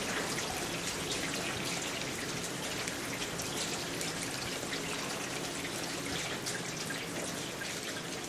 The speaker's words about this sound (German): Vielleicht kriegt man ja mal ein paar Regentöne ohne Autoreifen.